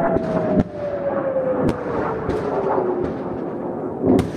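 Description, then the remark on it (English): Several sharp, booming blasts from incoming rockets, recorded on a phone at a home in an evacuated area, break out at irregular moments over a steady rumble, while a thin whistling tone slowly falls in pitch beneath them. No one speaks. “He's been recording the incoming rockets on his phone all week.”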